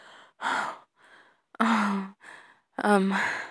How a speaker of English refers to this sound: Yeah, I am breathing heavily. I'm assuming you've done this before, right? It's a normal thing to breathe so heavily for you, Master.